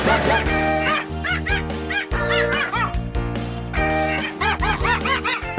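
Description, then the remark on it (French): A chihuahua yaps in quick, high-pitched bursts, repeated in short clusters over a loud, steady musical backing with sustained tones and a bass line, as part of a song made from animal sounds. “On a la chèvre, on a le chihuahua, on a le coq.”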